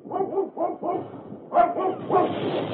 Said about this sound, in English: A couple of the fellows with flamethrowers were moving up a short distance from where I hid out, and as they were about to continue on, they heard Buster barking. So they came over to investigate.